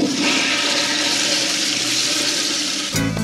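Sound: toilet flushing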